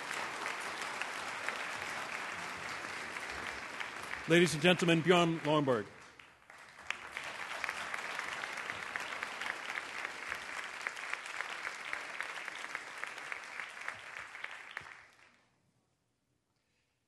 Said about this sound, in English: I think you deserve a round of applause for how you handled it.